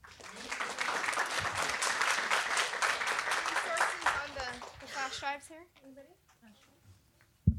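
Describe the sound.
A room full of people claps steadily in a dense, sustained burst for several seconds, then the applause fades out as voices start talking nearby.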